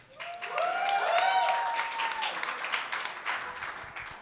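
An audience breaks into steady applause for a poet about to read poems from his fanzine; it swells quickly and holds for several seconds, with a few whoops and shouts rising over the clapping before it slowly thins out.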